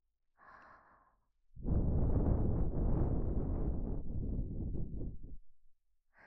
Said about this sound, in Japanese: 性感を高めていきます。 そう、こんな風に耳元で吐息を聞かせたりね。